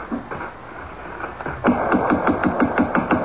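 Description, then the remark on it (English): A rapid, steady run of about eight loud knocks on the door of a closed five-story house with drawn shades, following a quieter stretch with a few faint taps and background noise. No one speaks. “The house is closed. Shades are drawn. Well, knock.”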